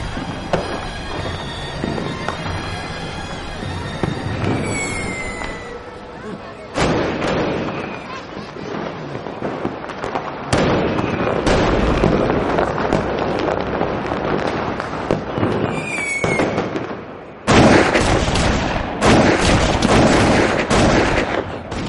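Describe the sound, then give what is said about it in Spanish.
Repeated gunfire cracks and booming blasts, dense and irregular, from a historical battle reenactment on a beach crowded with people, over a continuous roar of noise, with some faint voices in the mix; loud. “sigue en la playa en medio de los disparos de una recreación histórica.”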